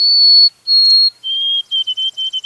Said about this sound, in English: Pure, long-whistled notes in a very distinct pattern. Some say it sounds like Old Sam P. Peabody Peabody. This is the exquisite song of a white-throated sparrow.